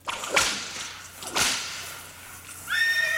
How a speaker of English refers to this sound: Speaking of horses. That horse just went on and on. Yeah, it's hungry.